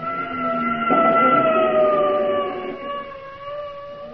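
A loud ambulance siren sweeps past close by, its steady wailing tone jumping up briefly, then sliding lower as it moves away. No voices are heard.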